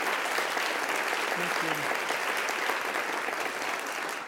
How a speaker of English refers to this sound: So let's have another round of applause, please